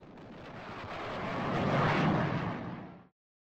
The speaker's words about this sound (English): If the plane moves faster than the speed of sound, it creates a bow shock. People on the ground can hear the combination of those sound waves as the bow shock passes in front of them in the form of a sonic boom.